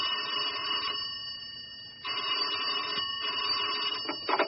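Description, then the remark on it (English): A telephone rings in two bursts separated by a short pause, each a steady, high, buzzing trill at moderate loudness with no voices; the phone is in an office in New York. “Sitting behind his monstrous oak desk in a monolithic office block in New York, he waited for the phone to ring.”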